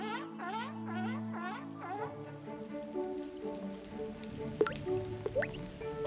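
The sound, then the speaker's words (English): Raindrops falling outside plink and drip, a couple of sharp drops standing out near the end, layered over soft sustained musical tones and rising chirpy notes. “Drip, drip, drop, drop, drop. Blue droplets fall outside. Ugh, look, it's raining, pouts Sis.”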